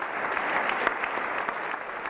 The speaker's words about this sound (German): Die Madrider Oper ist zurück mit einer wunderbaren Inszenierung. Stehende Ovationen für La Traviata.